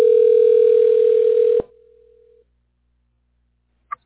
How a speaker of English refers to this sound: It's ringing now? It's ringing.